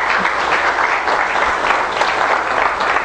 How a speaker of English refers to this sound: Give Him a hand of applause in His house.